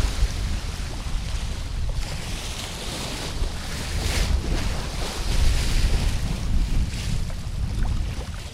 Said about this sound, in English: There's an onshore breeze from the north kicking up small waves.